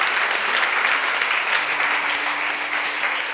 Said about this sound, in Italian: Signore, grazie. Applauso a Gesù ancora più forte, dai.